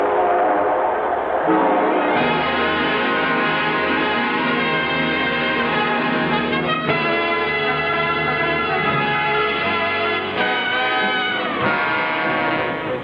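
A train horn blares in long, sustained chords over the steady rumble of a train getting under way, loud, with no voices throughout.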